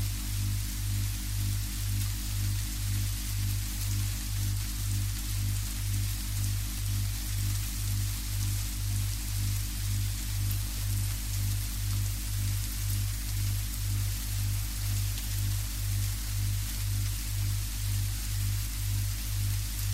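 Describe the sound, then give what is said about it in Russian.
Steady, even rain hisses continuously at a moderate level, with a low, rhythmic pulsing hum beneath it. Nobody speaks. “Слушайте шум дождя.”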